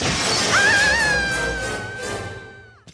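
A loud shattering crash bursts out, its noisy debris trailing off over a couple of seconds while a high, steady ringing tone hangs above it before cutting off.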